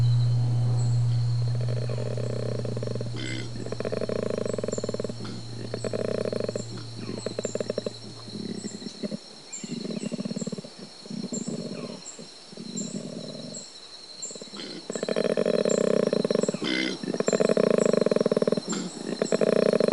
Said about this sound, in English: every computer match of a koala call, we check just to make sure it is a koala